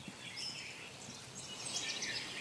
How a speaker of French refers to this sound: L'appli Dawn Chorus permet donc non seulement d'entendre des centaines de sortes de gazouillis, d'éduquer son oreille, mais aussi d'aider à collecter des données pour la science.